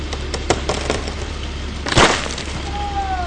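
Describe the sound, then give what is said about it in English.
Crews sawing down and chipping up dead and live ash trees hit by emerald ash borers: sharp cracks and splintering wood snap out over a steady low engine rumble, with one loud crunching burst midway and a thin whining motor tone rising near the end. “Crews here have been sawing down and chipping up trees 6 days a week.”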